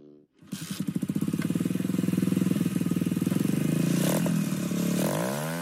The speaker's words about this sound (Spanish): Y el popular Roller Thunder, la caravana anual de miles de ruidosas motocicletas que llega a Washington D.C. desde todos los lugares de Estados Unidos el Día de los Caídos para honrar a los militares muertos en acción o prisioneros de guerra,